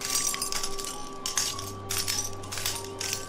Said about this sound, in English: Broken glass.